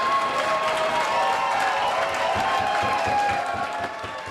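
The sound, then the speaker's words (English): A crowd in Canada breaks into sustained applause and cheering as a vote result of 158 yeas to 133 nays is announced. Dense clapping mixes with excited shouts that stay loud and steady before easing slightly at the end. “crowd is clearly ecstatic.”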